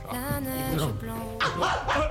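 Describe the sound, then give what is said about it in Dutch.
A dream creature, a harmless 'droomhundrum', whines in a high, wavering tone, then breaks into two sharp, loud barks in quick succession, with no one talking. “Dat is een droomhundrum. Die is helemaal onschadelijk.”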